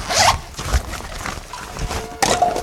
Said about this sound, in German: Was ist das für ein Spray? Das ist ein hochwirkungsvolles Betäubungsspray.